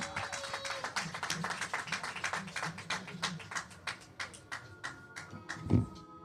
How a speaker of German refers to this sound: Okay, alle haben Bock auf den Rap-Stammtisch. Dann freue ich mich, es wird Zeit. Gebt mir nochmal einen ganz herzlichen Applaus